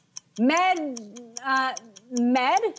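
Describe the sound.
A game timer ticks in a steady, even rhythm of sharp little clicks, running continuously through a 30-second round of a word game while a person talks over it in bursts.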